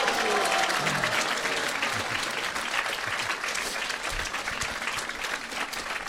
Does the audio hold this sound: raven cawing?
no